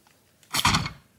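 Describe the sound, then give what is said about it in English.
A single loud dog bark lasting about half a second, sharp and full-bodied, with near silence before and after and no one speaking. “The dog's really barking.”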